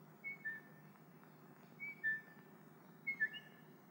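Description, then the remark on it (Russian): Three short two-note whistles repeated at steady intervals, each a quick rising-then-falling pair of clear tones: a person whistling a signal in a garden at night to call someone out of the house, over a soft background hum. “В ответ на этот свист из дома выбегает”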